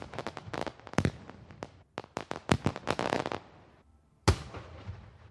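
Fireworks going off in a rapid, irregular barrage of sharp bangs and crackling pops, with a brief lull before one loud final blast that rings out and fades. No one speaks.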